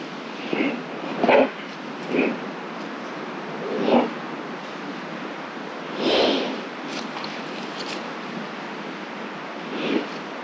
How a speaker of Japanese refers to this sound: 設置してから約2時間後の夜7時半、何かが現れました。しきりにマイク周辺の匂いを嗅いでいるようです。